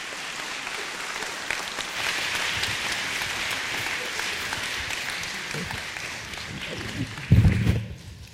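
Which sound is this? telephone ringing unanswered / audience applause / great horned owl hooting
audience applause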